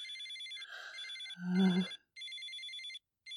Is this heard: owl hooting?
no